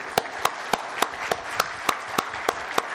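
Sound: audience applause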